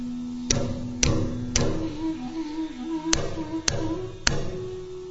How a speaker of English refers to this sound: He came to the palace of Nanda Maharaj and knocked very loudly on the door.